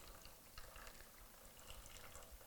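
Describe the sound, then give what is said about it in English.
Expensive bottled water pours steadily out of a bottle in a continuous splashing, gurgling stream, fairly soft, as all of it is emptied out, lasting the whole moment with no voices. “you might have a perspective of I'm wasting this expensive water.”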